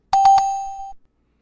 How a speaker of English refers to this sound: We got different bells.